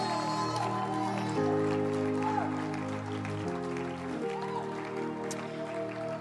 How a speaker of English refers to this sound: I like your hand clap just a little bit. Oh, yes. I like your hand clap just a little bit. You can add on to it.